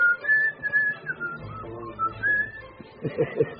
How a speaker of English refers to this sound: another trick, a whistle that told everyone a guard's on the way.